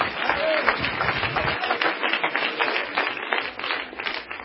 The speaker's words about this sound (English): Come on, if you believe that, clap your hands right now to the Lord.